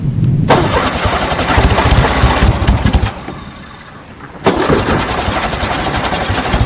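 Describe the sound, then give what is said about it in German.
A car engine cranks and sputters with rapid, uneven chugging, cuts out briefly into a low idle, then coughs back to life in loud, rattling bursts. No one speaks. “Ach, hoffentlich nicht der Motor.”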